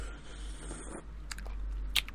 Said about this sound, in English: I don't usually do this, but hold on, let me sip this tea